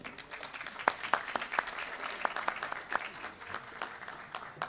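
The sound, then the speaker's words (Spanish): Applause from legislators during a session of a legislative chamber, a dense patter of many hands clapping with a few sharper, louder claps standing out, steady and moderately loud throughout without any voices. “Muchas gracias, diputada, creo que se merece un aplauso.”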